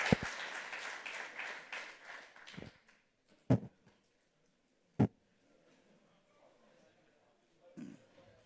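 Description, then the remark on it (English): An audience breaks into a dense burst of applause for the presenters that fades out after a few seconds, followed by a couple of sharp isolated knocks and a mostly quiet room. “Okay, everybody, give a huge round of applause to all the presenters.”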